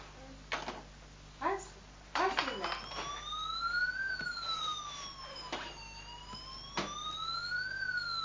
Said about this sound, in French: Il y a l'ambulance de l'ICA qui fonctionne.